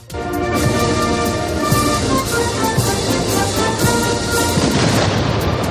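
Heavy cannon booms from a ceremonial military-honours salute at the Palacio Real in Spain ring out at irregular intervals, a few seconds apart, over a dense, steady wash of tonal sound that continues throughout. The salute welcomes the Emir of Qatar, Tamim bin Hamad Al Thani, and his wife.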